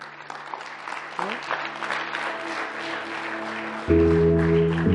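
An audience claps steadily in a dense, continuous patter while sustained keyboard chords play underneath, the music swelling noticeably louder near the end.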